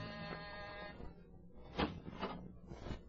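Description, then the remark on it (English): A doorbell, rung a second time, buzzes with a steady, harsh, reedy tone for about a second, then stops; a few brief noisy bursts follow in the quiet that remains. “Ring that doorbell again.”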